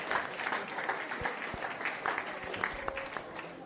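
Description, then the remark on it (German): Sustained applause from a concert audience welcoming the band at the church centre of Kirche Diesbach, a dense wash of many hands clapping steadily with scattered sharper claps, reverberant, for several seconds. “die Band einen herzlichen Applaus.”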